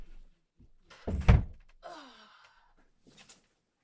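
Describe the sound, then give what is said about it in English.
A door is pushed shut during a recording to cut out noise from family, with a solid, low thump, followed by a brief creaking sound and a small click of the latch a moment later. “Really should have shut my door before I started recording, but I'm not a professional, obviously.”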